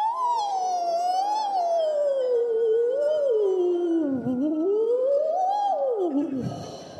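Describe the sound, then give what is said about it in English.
A group of people imitates whale calls together on a count of three, producing long, continuous moaning tones that slide slowly up and down in pitch for several seconds before fading at the end. “we'll give Atlanta a little example of what whale sounds like”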